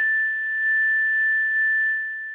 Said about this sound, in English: And it's a chime, and the chime actually goes every 15 minutes or hour. You can change it according to what you want. But it's this sound right here.